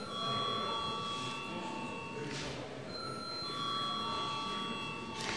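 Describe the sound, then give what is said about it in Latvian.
A bell in the chamber of the Latvian parliament (Saeima) rings steadily for several seconds to call a vote after deputies object, a bright, sustained electric tone over a murmuring room, loud and unbroken from start to finish. “Deputāti iebilst, lūdzu zvanu.”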